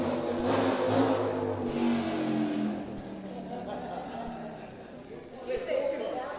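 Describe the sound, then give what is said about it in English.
A loud motorbike engine revs, its throaty roar rising and holding for several seconds before easing slightly and surging again near the end. “I was expecting maybe a heckler or something, but not a motorbike.”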